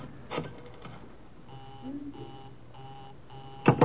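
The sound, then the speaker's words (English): A telephone busy signal: a steady tone pulsing on and off about four times in an even, rapid rhythm, heard clearly over faint background noise, with a sharp clatter at the end. “Busy. Yeah, sure. When isn't it?”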